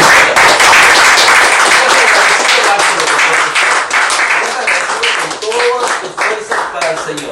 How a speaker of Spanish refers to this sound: ¿Cuánto le dan un aplauso, amén, Señor?